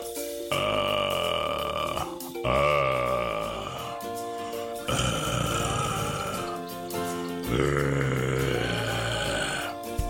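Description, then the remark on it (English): A human voice imitates a wild animal's roar for a recorded take, four long, loud, gravelly bursts, each a harsh throaty growl lasting a couple of seconds, separated by brief pauses. “Wild roars.”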